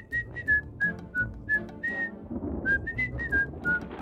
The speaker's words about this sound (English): Wait a minute. Did y'all hear that? It sounded like distant whistling. I said a yoo-hoo! I heard it. A distant whistle coming from that direction.